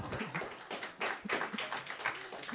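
An audience claps together in a dense, steady burst of applause for the speaker's new wife, many overlapping hand claps forming a loud, continuous crackle with no voices standing out.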